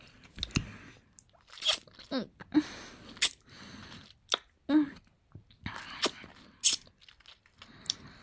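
Close, wet mouth sounds with repeated soft smacks and squishes in an irregular rhythm, like someone chewing with their lips closed, fairly quiet with short pauses between bursts.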